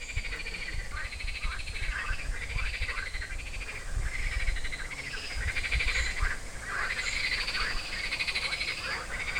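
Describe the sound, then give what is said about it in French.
A dense chorus of frogs croaking continuously, many overlapping calls pulsing rapidly at once, steady, with a low rumbling background and no speech. “Donc normalement, on n'a pas le droit de les manipuler parce qu'elles sont protégées, toutes les grenouilles de France, tous les crapauds de France, ni au stade de têtards, d'œufs ou d'adultes.”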